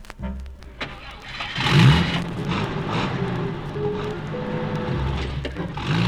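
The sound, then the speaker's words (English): A car engine cranks and catches, then revs up with a rising, steady hum as the car, carrying a farmer's household, pulls away to their new farm, fairly loud, with no voices. “Everyone was in the car, and they were off to their new farm.”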